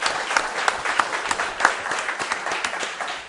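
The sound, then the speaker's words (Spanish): A programme's audience applauds two guests from Tenerife, many hands clapping in a steady, dense, crackly wash with a few sharper individual claps standing out, sustained at an even, moderately loud level throughout. “Os pido un aplauso para estos dos señores que llegan de Tenerife a nuestro programa.”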